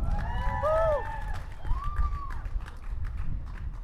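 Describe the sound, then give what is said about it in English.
Audience applause welcoming the next speaker, from the Green Party, with a rumbling crowd wash, rising and curving whoops or whistles over the top early on, then the clapping continues at a steady, moderate level. “Big round of applause.”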